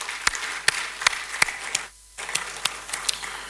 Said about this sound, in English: So today, we are hosting Ekosisen from the Kempinski Gold Coast Hotel. I think it's better for you to give all of us a round of applause, please.